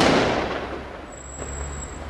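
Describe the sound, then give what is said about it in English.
A single sharp, loud launch pop as Israeli soldiers on buildings fire tear gas canisters into a crowd of Palestinian youths, its burst quickly fading into a lingering echo over a low, steady rumble of background noise. “On the buildings here beside me are Israeli soldiers who are firing tear gas canisters into the crowd to try and keep them back.”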